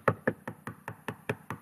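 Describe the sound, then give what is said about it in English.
Eight quick, steady knocks on a hard surface, evenly spaced and fairly loud, each a short dull thud with no voices over them. “Keep knocking.”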